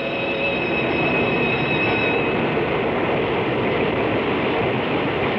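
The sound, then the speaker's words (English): Big, shiny electric commuter train cars brake to a stop along a platform, the steady rumble overlaid by high, thin wheel squeals that fade out partway through while the low roar continues. No one speaks. “They exchange idle small talk till the big, shiny electric cars skitter to a stop along the platform and they scatter aboard and scramble for seats.”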